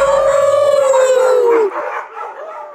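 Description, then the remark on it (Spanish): Several people let out a long, drawn-out howl in imitation of dogs, a steady sustained tone that slides downward and breaks off, followed by a few trailing yelps and whoops. “¿Me acompañan a aullar? ¡Au!”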